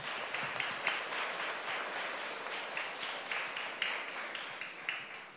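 Children in a Buddhist class applaud steadily at their teacher's request, dense overlapping claps at a sustained, moderately loud level for several seconds, with no voices heard.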